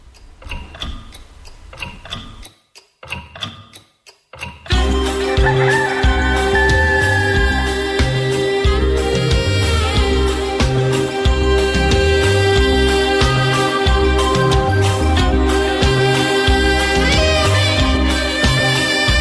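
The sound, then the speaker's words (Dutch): A clock ticks in steady, sharp clicks for a few seconds, then loud music with a thumping beat comes in and carries on over it. “En als de klok begint te tikken, dan weet je dat Piet de Bote is gedaan.”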